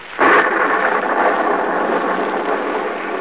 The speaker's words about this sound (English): Gaze up this muddy, rain-splattered road. A small, lonely stone building appears against the lightning-streaked sky. The dismal courthouse of a southern village. The village of Marsdenburg. It is nearly midnight.